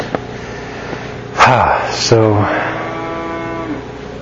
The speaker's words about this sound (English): Yes, and there are cows close by. I don't know if you heard the cow or not